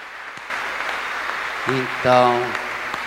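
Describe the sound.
A crowd claps steadily in a dense, continuous wash of applause, with a brief voiced tone rising through it partway before the clapping carries on. Applause during a church celebration, following a prayer, for Nossa Senhora da Natividade.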